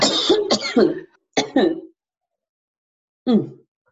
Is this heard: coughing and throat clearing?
yes